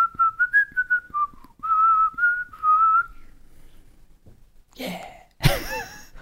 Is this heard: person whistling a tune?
yes